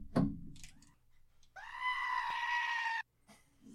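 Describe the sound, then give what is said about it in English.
A goat lets out one loud, drawn-out bleat lasting over a second, after a few brief scuffling noises. “That's a goat in your ears.”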